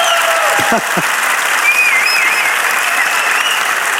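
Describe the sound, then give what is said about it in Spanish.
An audience applauds steadily and loudly for several seconds, a dense wash of clapping hands, with a brief whistle-like tone near the start. “¡Fuerte el aplauso!”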